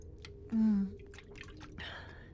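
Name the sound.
sipping drinking water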